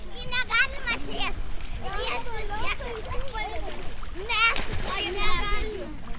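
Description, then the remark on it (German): Gentle, continuous water splashing as someone wades through knee-deep water over soft sand in the lagoon of the Curonian Lagoon, sun low, largely under children's voices talking and calling out. “Die Lagune am Kurischen Haff ist endlos, wie eine riesige warme Pfütze. Das Wasser geht uns bis zu den Knien, weicher Sand unter den Füßen.”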